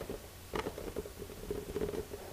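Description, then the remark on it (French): Light rain patters in soft, irregular taps and drips, a quiet steady scatter of small impacts with a faint hum underneath and no voices. “J'entends la pluie qui pianote.”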